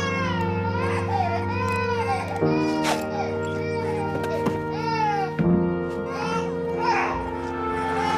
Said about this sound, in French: Et donc on a un enfant qui pleure.